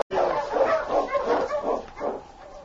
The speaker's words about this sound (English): When he heard the sound of an approaching dog team